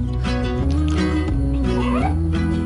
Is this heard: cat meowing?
yes